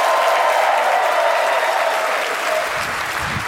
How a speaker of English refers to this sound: Let's all agree we're going to clap, and you don't have to raise your hands. Half of you are clapping, half of you are raising your hands. Let's all agree to do clapping.